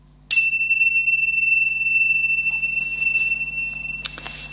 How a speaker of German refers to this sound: Mein Regieassistent macht immer vorher mit der Zimmel den kleinen Gong.